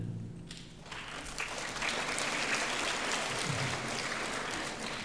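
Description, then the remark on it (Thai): A crowd claps steadily for a fellow student in a dense, sustained wash of applause that swells slightly after the first second and holds at a strong level. No one speaks. “อันนี้ปรบมือให้เพื่อนนะคะ”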